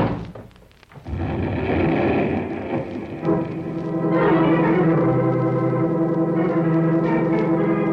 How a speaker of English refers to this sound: Yes, knocked out and burned by the explosion.